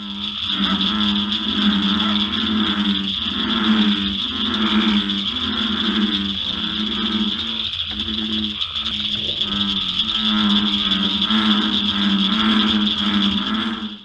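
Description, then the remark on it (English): A dense chorus of frogs and toads, the males calling to lure females for mating: a steady high-pitched trill runs throughout, layered with lower, pulsing croaks that repeat in loose rhythmic bursts, loud and continuous with no voices. “Those are frogs and toads, and they are, of course, beginning their very strong desire of the males to lure in females for mating.”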